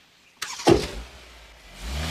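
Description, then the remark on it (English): A car pulls away from the curb: a sudden thump, then a low engine rumble that swells as it revs up and moves off. No one speaks. “Staring after her, he climbs into his car and pulls away from the curb.”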